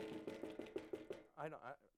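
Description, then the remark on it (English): About seven quick, evenly spaced knocks on a pulpit that is not made of wood, moderately loud with a dull, hard tone, followed by a brief spoken phrase. “Too bad it's not a wooden pulpit.”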